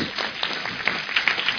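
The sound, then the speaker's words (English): A crowd gives a clap offering for Nigeria, clapping together in a dense, steady burst of applause, many hands blending into a bright wash of noise with a few sharper individual claps standing out. “Everybody, give Nigeria another clap offering.”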